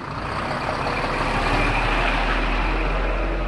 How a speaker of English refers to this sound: At a diesel truck stop next to the port of Calais